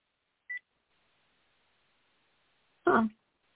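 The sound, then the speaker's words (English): A single short, high electronic beep from a phone being used to place a call, which says it is off, sounds alone, followed after a pause by a brief harsh burst of noise, like a throat clear. No one speaks. “And I'm having trouble with my phone.”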